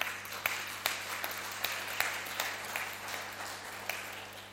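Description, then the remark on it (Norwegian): A crowd applauds the organisers of pre-Christmas singing and Christmas Eve events, a dense wash of clapping with a few sharper claps standing out at a loose, regular beat, moderately loud and sustained throughout with no voices. “Førjulsang og julaften, de kan skal ha en klapp igjen, de kan ha.”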